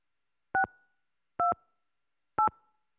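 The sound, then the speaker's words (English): Three touch-tone keypad beeps, each a short dual-pitched electronic tone, pressed at an even pace about a second apart with silence between them, as the first three letters of a music group are entered on the Music Phone telephone line. “Please enter the first three letters of the group you would like to hear now.”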